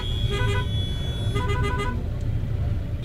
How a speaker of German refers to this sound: Wir sitzen im Auto und versuchen uns durch die Massen von Menschen und Fahrzeugen zu bewegen. Der Weg von A nach B wird zur Geduldsprobe. Der Verkehr steht immer wieder still, blockiert von unzähligen Pilgern, die ihren Weg zum Ganges suchen.